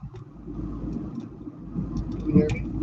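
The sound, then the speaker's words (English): Continuous low rumbling roar of passing cars heard while a man drives, steady and fairly loud, with muffled, indistinct voices faintly underneath and a brief louder knock near the end. “All I hear is the roaring of the cars in the background and everything.”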